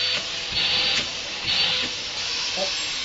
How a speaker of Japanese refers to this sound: ちょっとその最後に掃除機かけたいと思います。